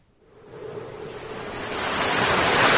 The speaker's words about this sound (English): But he couldn't hear. The sound of the waves, you see, and the wind.